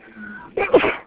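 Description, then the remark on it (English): A single sneeze: a faint, drawn-in breath followed by a sudden, sharp burst of air that fades quickly, with no talking around it. “Bless you.”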